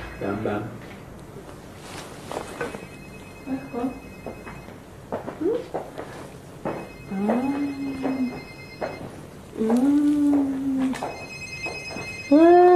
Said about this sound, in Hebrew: מה זה? טלפון מצלצל? מקשיבה? מקשיבה לצלצול?